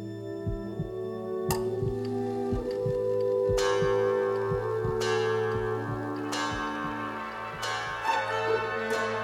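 bell ringing

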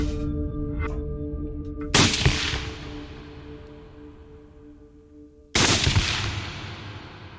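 two gunshots

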